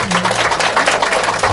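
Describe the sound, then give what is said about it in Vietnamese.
A crowd at a Buddhist gathering applauds steadily after a cake is offered to the teacher, many hands clapping at once in a dense, even patter that stays loud and sustained throughout, with a faint low hum beneath. “Xin quý vị hoan hỷ cho tràng pháo tay.”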